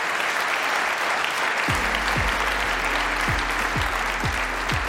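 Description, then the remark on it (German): A crowd applauds loudly and steadily for the evening's expert guests at a live 'Eine Stunde History' event in Fulda, a dense wash of clapping, joined partway through by a rhythmic low thumping of music beats underneath. “unsere Experten heute Abend, bitte Applaus.”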